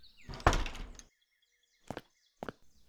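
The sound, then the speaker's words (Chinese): A door is shut with a loud slam that rattles briefly, followed by two quieter knocks a moment later, with no one talking. “不会关门哦？”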